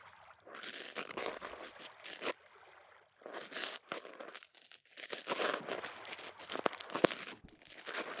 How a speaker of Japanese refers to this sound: 水の音とこの夜船のゆったりとした揺れを感じていると、まるで赤ちゃんになったような気がしてきませんか？ゆらゆら、ゆらゆらって、なんだか夜空に浮かぶゆりかごみたいですよね。